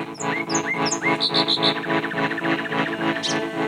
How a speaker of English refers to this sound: Very quickly will pull you under his spell and you'll fall into this amazing pattern and rhythm that the birds sing in that can really take you away for many hours into the night just listening.